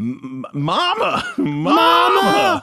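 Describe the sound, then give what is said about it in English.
A man's voice imitates the heavy, labored breathing of a large man, with drawn-out, groaning vocal moans rising and falling in pitch, a few short bursts then two long loud strained exhalations, alone. “Heavy breathing of a large man.”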